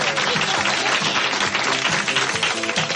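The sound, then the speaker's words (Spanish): Steady, loud applause from a studio audience, dense clapping filling the whole stretch without pause, with crowd noise blended in and no clear speech. “Bueno, no aplaudáis.”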